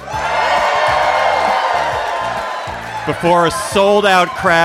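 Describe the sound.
A sold-out live audience at the Bell House in New York cheers and whoops loudly in a dense, sustained roar that fades slightly as a man starts speaking over the dying applause.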